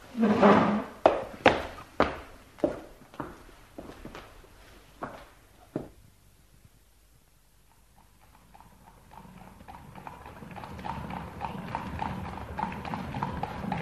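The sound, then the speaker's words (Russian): The hooves of a horse-drawn carriage clip-clop in a steady, loud rhythm for about six seconds, then stop; after a brief hush, a low rolling rumble with a faint hum gradually swells. No one speaks. “Мой экипаж у дверей.”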